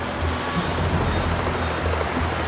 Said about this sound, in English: Moments later, the helicopter touches down safely.